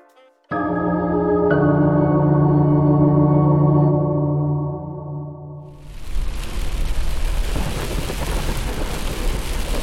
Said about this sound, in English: Well, it sure is dark driving through these pine woods, and the rain don't make driving any easier.